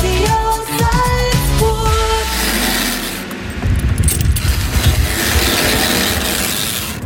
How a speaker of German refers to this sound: So klingt das, wenn man eine Seilbahn revisiert. Einen schönen Dienstagnachmittag aus Wagrain. Wir sind auf der Stütze Nummer 5 vom Sessellift und wir heben jetzt das Seil auf, weil wir wollen die Rollen da kontrollieren.